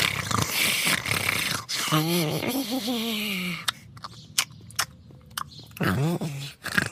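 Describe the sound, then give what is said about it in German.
A small creature, peacefully asleep, grumbles in low, wavering murmurs, then a run of soft wet lip-smacks and clicks, then another sleepy grumble; fairly quiet, with a faint snore-like rasp. “während das kleine Wesen friedlich schnarcht und immer wieder leise grummelt und schmatzt.”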